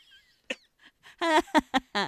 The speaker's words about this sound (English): You've already cleared your throat so many times, and I know it's going to keep happening.